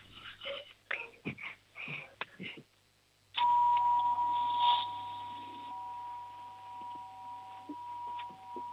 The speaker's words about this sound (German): Machen wir mit der Türklingel weiter. Okay.